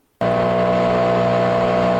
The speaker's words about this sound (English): So you can see this leaf blower behind me has told us that he will not leave until we do.